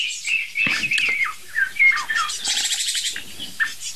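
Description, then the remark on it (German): Two Eurasian jays trade soft, chattering calls, a busy stream of high chirps and squeaky twitters running throughout with no pauses or talking. “Aha, ich weiß, was es ist. Es sind zwei Eiche her.”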